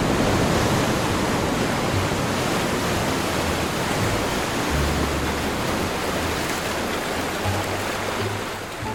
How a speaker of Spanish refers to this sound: El sonido del mar, ese me encanta, y el de las olas reventando.